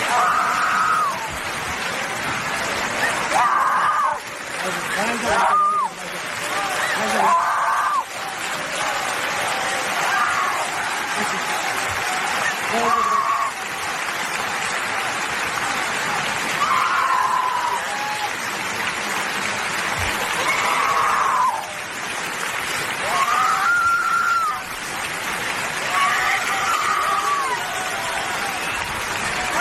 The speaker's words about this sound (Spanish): los gritos de desahogo, de Uta Abe ante los aplausos